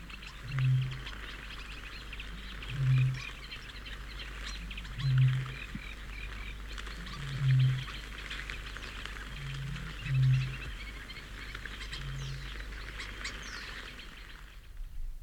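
A very deep, powerful, booming, moaning bird call, heard at close range, repeats about six times at steady two-second intervals, low and resonant, over a constant background chorus of chirping and calling birds.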